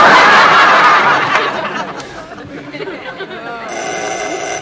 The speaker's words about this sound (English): Did I trip a burglar alarm? Oh, no. Doorbell. I wonder who it is at this time of night.